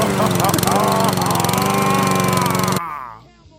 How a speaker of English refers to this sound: It's the lawnmower, man.